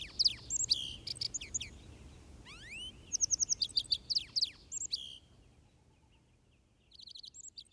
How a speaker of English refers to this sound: The lark sparrow, a melodious jumble of clear notes and trills.